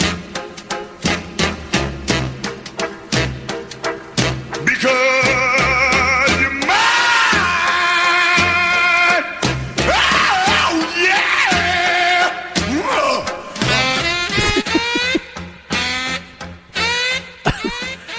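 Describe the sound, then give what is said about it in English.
A moody, spooky R&B song plays loud and continuous, with a theatrical, wailing lead vocal swooping and shouting over a steady band accompaniment. “You can't do the annual spooky version of Fly Jams Friday and absolutely, and you can't not play that one”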